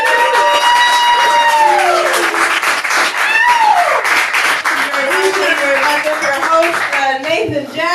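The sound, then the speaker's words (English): A crowd at a comedy show applauds a comedian loudly and steadily throughout, dense clapping with rising and falling whoops and shouted cheers riding on top. “Give a shout out and a round of applause”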